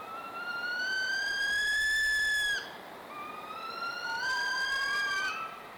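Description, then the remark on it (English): Two long, high-pitched whining wails of a northern saw-whet owl in fall, each rising slightly and holding steady for a couple of seconds, with a brief gap between them and no talking. “As you're out walking in the cover of darkness this Halloween, keep an ear out for their eerie fall conversation.”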